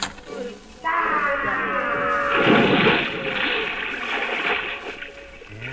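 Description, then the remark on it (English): A loud splash into a huge pot of boiling water, followed by several seconds of churning, sloshing water noise that gradually settles. “They've got a huge pot of boiling water, and they'll boil any white man alive.”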